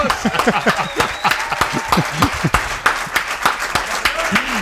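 A crowd at the El Larguero radio show on Cadena SER breaks into steady applause for Aymar Breto, many hands clapping in a dense, crackling rhythm for several seconds, with scattered voices and cheers rising through it.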